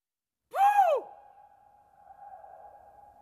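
A single swooping electronic tone rises and falls over half a second, then leaves a long, steady ringing hum that fades slowly, like an echoing sound effect with no voices.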